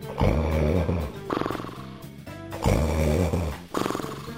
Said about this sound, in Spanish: Esperó Juan hasta que oyó ronquidos. Por fin cayó el ogro dormido.